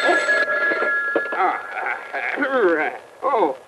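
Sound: telephone ringing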